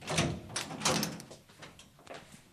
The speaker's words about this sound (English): So I'll just unlock the door.